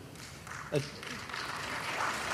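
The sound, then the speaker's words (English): Soft, scattered applause from an audience, staying fairly faint and even for a couple of seconds, with a bit of low murmuring mixed in. “That applause was far too mild.”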